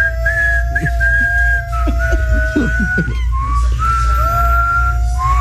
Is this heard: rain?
no